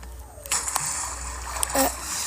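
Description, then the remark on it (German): Splashing, sloshing water as a player slides down a video game water slide, with broad bursts of spray over a steady rushing background, moderately loud. “Okay, ich bin hier gerade bei so einem Teil, da ist so eine Wasserrutsche, die rutsche ich mal.”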